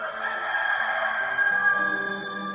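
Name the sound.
rooster crowing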